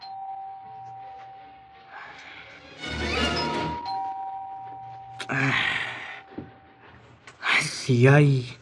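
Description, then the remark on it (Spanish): A doorbell at the front door of a house is pressed anxiously, chiming repeatedly, its steady electronic tone ringing out between louder bursts of noise, with a voice calling out near the end. “Ansiosamente presiona el timbre de la puerta.”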